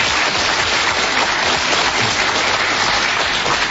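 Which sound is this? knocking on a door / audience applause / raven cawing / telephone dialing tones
audience applause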